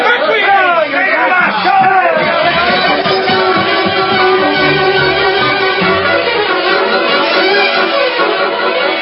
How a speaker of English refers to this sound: Angry crowd marched to courthouse.